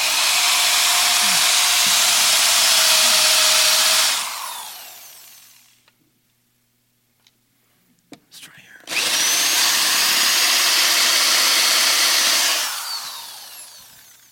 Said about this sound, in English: Okay. Got this drill. I would have my new DeWalt one, except for it's wearing out. But I got this drill, and I want to drill a hole in this board. Okay? So let's just...